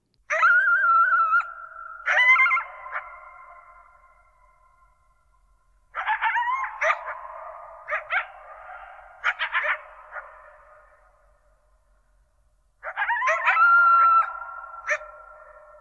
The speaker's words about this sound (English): Some people hear this as a recording of silence made audible by the coyotes, because the echoes, if you listen carefully, those echoes are so never-ending, defining the very hills they're performing in.